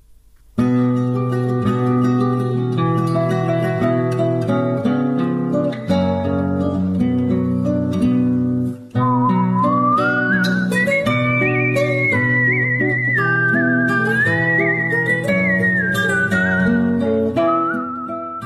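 Sustained instrumental music plays alone at first, then a clear, prominent human whistle carries a wavering melody over it for the rest of the passage, whistled by a violin and kamancheh player who lives in France. No one speaks.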